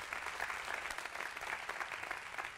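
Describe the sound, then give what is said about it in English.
An audience claps together in a steady, dense wash of applause, many hands blending into a continuous bright patter at an even loudness throughout. “At all of our campuses, you guys clap, put your hands together.”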